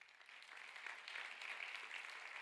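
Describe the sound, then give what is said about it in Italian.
Sustained applause of praise from a crowd, a dense, steady patter of many hands clapping at an even loudness throughout, with no voices standing out above it. “Fai un applauso di lode al papà.”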